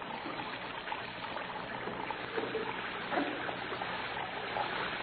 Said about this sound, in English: Plug up your base and let the water run on the floor. Why? Yours is running plenty.